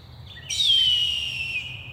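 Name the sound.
eagle call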